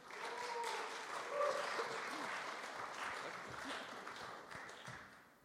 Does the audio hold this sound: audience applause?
yes